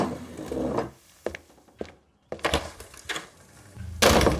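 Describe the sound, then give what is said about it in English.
A few light knocks and handle clicks lead into a heavy door being slammed shut in anger, with a loud wooden bang near the end. No one speaks. “As you do, you slam the door, anger coursing through your body as you tear off down the hallway.”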